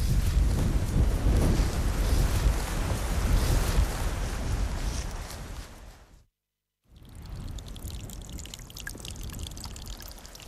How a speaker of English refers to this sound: we've been lucky so far, but here comes the rain. I'm afraid so.